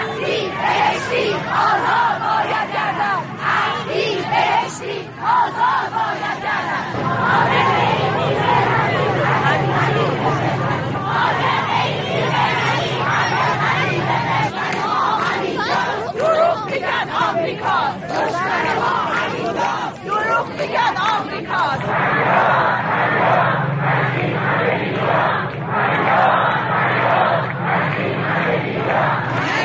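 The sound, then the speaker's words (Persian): A large crowd of retired teachers at a protest shouts slogans in unison, among them "a cry against all this injustice". The shouting is loud and sustained, with rhythmic chanted bursts and a dense wash of many voices throughout, swelling and dipping in waves. “فرهنگیان بازنشسته در تظاهرات اعتراضی خود شعارهای گوناگونی چون فریاد از این همه بیداد سر دادند و همچنین خواهان آزادی اسماعیل عبدی دبیر کانون صنفی معلمان ایران و محمود بهشتی لنگرودی دبیر کل پیشین کانون شدند که همچنان در حبسند.”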